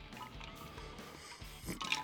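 A quiet sip of homemade sweet tea from a cup, a soft wet slurp rising near the end over low, steady background noise, with no one talking.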